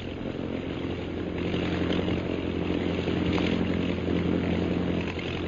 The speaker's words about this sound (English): The scout planes are coming straight here, all right.